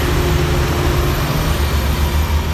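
A heavy truck rumbles past, its loud, steady engine drone dominated by deep low-end rumble and a faint tonal hum, with no one speaking.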